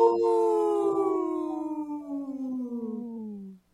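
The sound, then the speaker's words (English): Two people imitate a wolf howl together in harmony, one long, loud howl that slowly slides downward in pitch for about three and a half seconds before stopping abruptly. “supported by Howling for Wolves, protecting wolves for future generations. Howl!”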